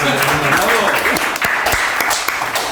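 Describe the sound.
A crowd applauds steadily, a dense wash of many hands clapping at once, loud and sustained for the whole stretch, with a voice briefly audible underneath at the start.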